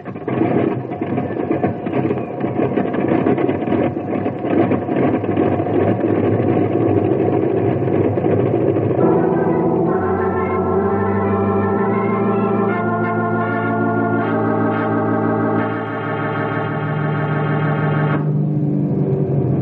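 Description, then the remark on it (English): A loud, steady, rumbling roar of an airplane engine running as the plane sets off carrying an injured man to a hospital, with no voices. About halfway through, sustained tones that shift in steps take over, like music swelling in over the engine. “Now, you fellas look after the injured man, and I'll get the plane on its way to a hospital.”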